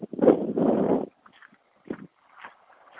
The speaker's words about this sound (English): So I'll walk back through the barn. You can hear the sounds of the farm.